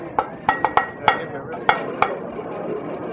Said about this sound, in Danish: Der findes tre internationale bankesignaler for redning. Og vi kan lige prøve at høre det første.